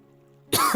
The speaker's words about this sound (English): Fuck, I have a cough.